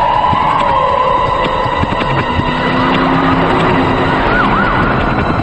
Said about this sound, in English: Flashing their blue lights, numerous police vehicles dodge cars as they race through traffic. The police cars skid to a stop, blocking off oncoming traffic.